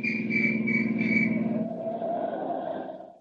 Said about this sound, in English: The road makes a sudden turn, and in the twilight he sees men in uniform barring his way. A police whistle stabs the quiet.